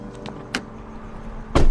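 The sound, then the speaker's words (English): A few light clicks and rustles of someone climbing into an SUV, followed by a heavy car door slamming shut at the end. No one speaks. “Glancing over her shoulder furtively, she climbs in.”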